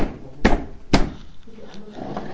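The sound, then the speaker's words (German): Two sharp knocks about half a second apart from someone repairing a chair, followed by quieter handling noises and faint background voices. “Ich muss mal kurz meinen Stuhl reparieren.”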